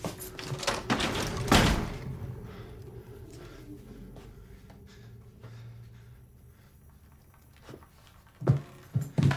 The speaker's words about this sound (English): He turns on lights and pulls open wardrobe doors.